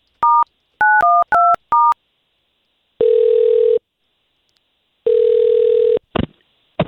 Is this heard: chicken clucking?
no